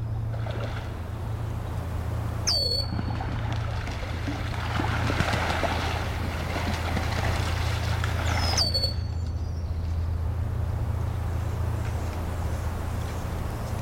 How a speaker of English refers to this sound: And especially now coming up is the Virginia rail splashing in the water.